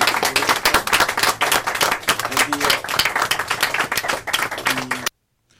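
At the end of a September book launch and reading event at Novel Idea Bookstore, an audience applauds the readers steadily for about five seconds, a dense wash of many clapping hands with a few voices mixed in, then it cuts off abruptly into silence.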